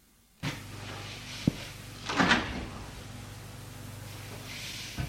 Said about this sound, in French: La porte de la chambre de sa sœur s'est ouverte et est en chemise de nuit blanche.